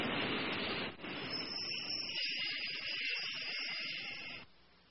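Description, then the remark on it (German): A subway train rolls in with a loud, steady roar and high metallic hiss that holds for several seconds before abruptly dropping away, with no voices present. “Das ist eine U-Bahn.”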